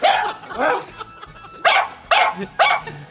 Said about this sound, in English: Sounds like my dog.